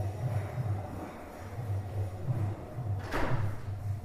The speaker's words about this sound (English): Please close that door to the temple room.